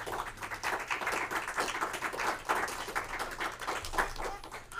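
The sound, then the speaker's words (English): An audience claps steadily for several seconds, a dense wash of overlapping hand claps at a fairly even loudness with no one speaking over it. “Thanks for clapping.”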